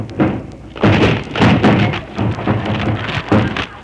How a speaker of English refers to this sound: Now break down the door.